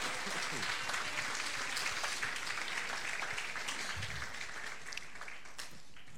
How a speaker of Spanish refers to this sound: Bueno, demos fuerte aplauso. Aleluya.